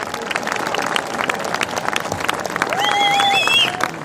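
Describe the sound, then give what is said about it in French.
A crowd applauds with dense, steady clapping, joined near the end by a few high whistles or cheers rising above the noise as it swells slightly louder. “Et franchement, là, j'aimerais qu'on s'applaudisse tous parce que vous êtes véritablement incroyables.”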